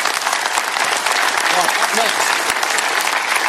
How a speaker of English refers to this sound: Oh, yeah, give him a round of applause.